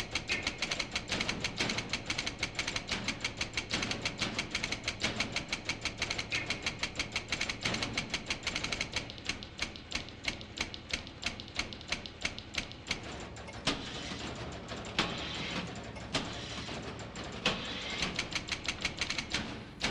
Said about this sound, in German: Die hören wir uns jetzt an, also ein Orchester aus lauter Büromaschinen.